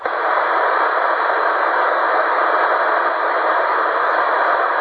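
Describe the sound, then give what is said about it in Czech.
A steady wash of loud radio static hisses without a break, a dense, even rush of noise from a weak channel during a two-way radio call, the signal fluctuating and coming and going, with no voices coming through. “To je kolísání, to je hrozný, tyjo. Chvíli je, chvíli není.”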